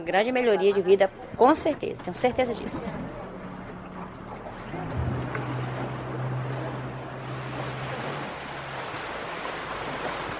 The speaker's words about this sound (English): We stop our boat at the famous Meeting of the Waters, where the Rio Negro joins the Amazon.